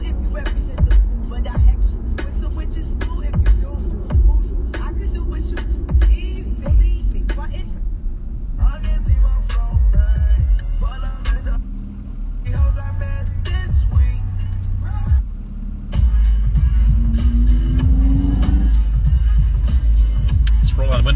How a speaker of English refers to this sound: Let the exhaust from this diesel that's pointed directly in my window just get right in here.